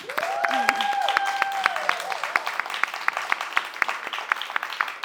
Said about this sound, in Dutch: Een applaus.